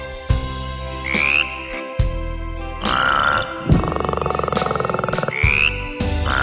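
Frogs croak loudly in a series of deep, repeated calls, broken up by a longer rapid pulsing trill near the middle, with no voices.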